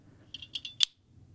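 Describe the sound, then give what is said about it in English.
The knock mechanism of a Studio Neat Mark 1 pen clicks several times in quick succession, each sharp click followed by a thin metallic spring ring, ending with one louder, crisper snap over a faint low hum. “You can even hear the spring.”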